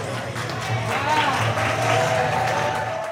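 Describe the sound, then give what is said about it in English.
A watch party crowd at Adventure Outdoors cheers and applauds steadily while watching the debate between Kamala Harris and Donald Trump, a dense roar of clapping and excited voices that swells slightly in the middle and stays loud throughout. “Unsurprisingly, there were plenty of cheers, like when Trump said Harris had no plan to boost the economy, accusing her of just copying President Biden's plan.”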